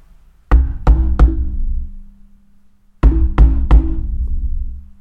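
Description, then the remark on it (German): Two sets of three firm knocks on a shop's glass door by people wanting to get in, evenly spaced, with a short pause between the groups; each knock is sharp and resonant, fairly loud, with no voices. “Und das tat fast physisch weh, das Klopfen.”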